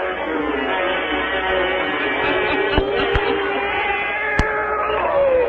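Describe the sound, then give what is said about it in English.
Satan, a black cat, lets out a long, drawn-out meowing yowl that wavers in pitch for several seconds, loud, with a few faint clicks in the background. “Let us join old Nancy, Witch of Salem, and Satan, her wise black cat.”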